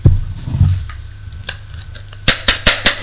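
knocking on a door

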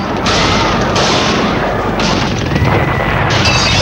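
explosions

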